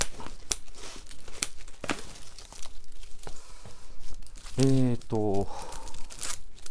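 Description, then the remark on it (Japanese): Paper handling: glossy TV magazines, including a SkyPerfect TV Guide and a BS Plus CS guide, crinkle and rustle in a steady series of sharp crackles and flaps, with a brief murmured voice partway through. “よいしょテレビ誌いくつか来てますね。”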